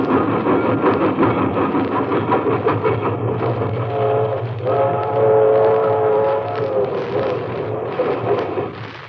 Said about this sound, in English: And when a cattle car came by, headed for Chicago, I stood undecided for a while. But before the caboose had shuffled by, I was on it.